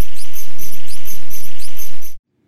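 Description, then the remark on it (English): A bat mother's baby-talk calls to her pups: rapid, high-pitched squeaky chirps repeating in a steady rhythm for about two seconds over a low rumble, then stopping abruptly. “Sounds like a bat squeaking.”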